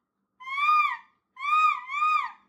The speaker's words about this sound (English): It's a hawk, Joss.